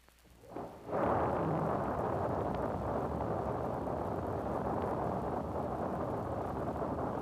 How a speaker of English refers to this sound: From the indicated time, ignition of the engines, followed by liftoff of the vehicle, will soon occur.